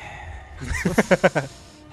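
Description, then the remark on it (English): A voice imitates exaggerated heavy breathing: four quick, rhythmic, voiced pants in a row, fairly loud, preceded by a softer inhale, with no talking. “and I just started, like, looking at stuff and, like, sizing it up to me, and the entire time I was breathing like this.”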